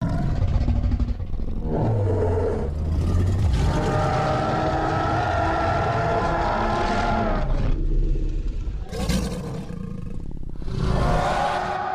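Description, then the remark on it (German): A dinosaur roar: loud, drawn-out bellowing growls with deep rumbling and rasping, rising and falling in several long waves over about twelve seconds, with no talking. “was hörst du? Dinosaurier! Genau, einen Dinosaurier.”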